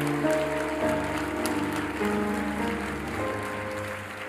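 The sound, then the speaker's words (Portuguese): A crowd claps steadily in a dense, continuous patter over sustained keyboard chords, with no voices speaking. “Se é só para aplaudir, não aplaude não.”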